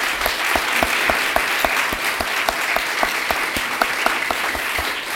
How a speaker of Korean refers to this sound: 그래서 우리 유스들에게 정말 신앙생활 열심히 하라고 우리 격려의 의미로 뜨겁게 우리 박수로 격려하겠습니다. 박수!